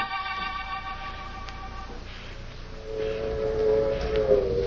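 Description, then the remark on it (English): A train pulls away from a station, its low rumble building under a steady whistle-like tone that fades, followed by a rising mechanical whine as it gathers speed. “I kept my head down till the train started.”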